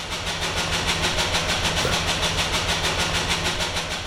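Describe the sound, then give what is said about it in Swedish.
Large engines being test-run in the test-running hall of an engine factory in Norrtälje, Sweden, roar steadily and loudly with a fast, regular pulsing beat and a dense mechanical hiss on top, continuous, with no voices. “Titta på bilderna så ser du hur det kunde se ut här inne när vi provkörde motorerna.”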